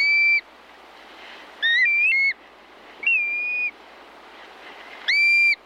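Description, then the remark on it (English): Black-bellied plover giving four clear, mournful slurred whistles, spaced a second or more apart, loud over a steady hiss of wind or surf. “Learn more about black-bellied plovers and other birds of the Arctic National Wildlife Refuge at birdnote.org.”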